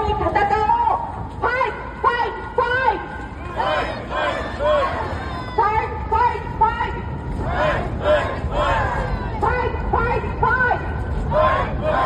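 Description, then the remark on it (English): A large crowd in Japan supporting Trump, who is there on a cart, screams a rhythmic three-beat chant of "fight, fight, fight" over and over, loud, with a dense roar of voices filling the gaps between shouts. “They've got Trump there on this cart, and they're screaming, fight, fight, fight.”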